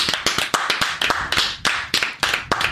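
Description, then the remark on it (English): A studio audience of 400 people claps in a brisk, fairly steady rhythm, the sharp crisp slaps following one another quickly and loudly for a few seconds with no voices over them. “That's the studio audience clapping.”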